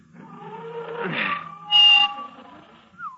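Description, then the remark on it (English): Car brakes squeal loudly as a vehicle comes to a stop, a sustained high-pitched whine that swells into a sharp, piercing screech before a brief final squeak. “Gotta get them brakes fixed.”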